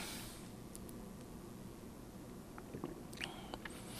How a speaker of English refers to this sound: Well, it's pretty, and I want to drink it, or at least take a sip, so I'm going to do that now if that's okay.